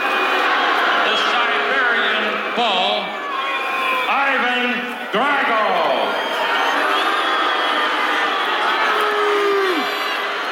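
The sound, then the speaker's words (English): A large crowd roars with booing and jeering, loud and continuous, with individual voices swooping up and down in pitch and one long falling boo near the end. “Look at the vitriol booing.”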